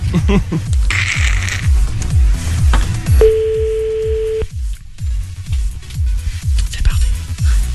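A single steady phone ringing tone, the outgoing-call ringback, sounds clearly for about a second over a thumping rhythmic music bed, then cuts off as the beat continues.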